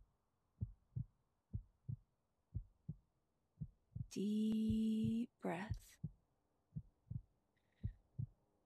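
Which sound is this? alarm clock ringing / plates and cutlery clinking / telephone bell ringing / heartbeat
heartbeat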